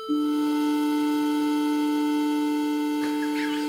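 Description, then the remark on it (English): A synthesized, out-of-tune wolf fifth interval: two electronic tones with added overtones sounding together as one steady, sour chord that holds for nearly four seconds without any voices. “And here's our wolf fifth.”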